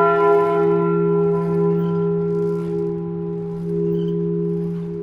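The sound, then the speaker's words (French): A large church bell rings loudly, its deep, resonant tone humming steadily and swelling slightly as it sustains through the whole stretch, with no voices. “ça vous fait pleurer, les cloches?”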